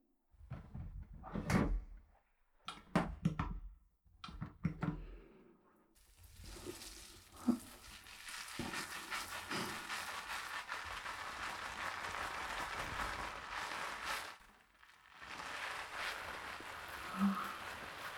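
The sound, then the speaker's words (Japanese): Body soap squeezed onto a sponge is worked into foam before being applied: a few wet squelching bursts, then a long steady stretch of crackly, squishy lathering that pauses briefly near the end before resuming. No one speaks. “つまり、ボディーソープが泡泡になる音、楽しんでね。”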